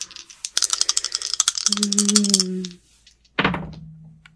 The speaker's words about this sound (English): Okay. Come on, dice.